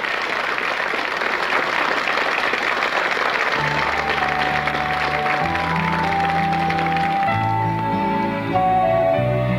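A loud, dense round of applause fills the opening seconds, then instrumental music with a steady bass line begins and gradually takes over as the clapping fades beneath it.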